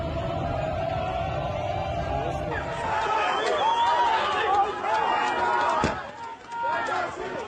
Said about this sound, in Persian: آنچه شنیدید صدای تظاهر کنندگان در روز شنبه گذشته و در برابر دانشگاه تهران و اطراف آن بود.